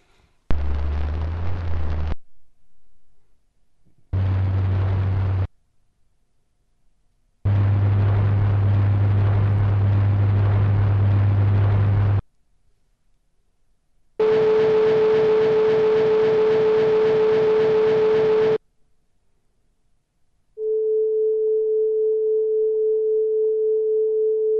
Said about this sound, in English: That's a pretty pure tone. Right. Now, what you're hearing there is a recording we believe was made actually by the vibrations of a tuning fork directly. That is, we're not picking something up with a membrane, something that's gone through the air.